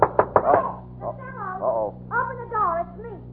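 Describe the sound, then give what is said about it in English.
A quick run of three or four sharp, fairly loud knocks on a door, followed by drawn-out, wavering voice sounds with a steady low hum underneath. “Open the door.”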